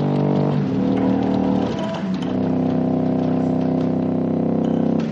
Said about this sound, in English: And then the other cool thing about this is this extra keyboard he added down here called the sub-bass, which enables you to get these super low tones.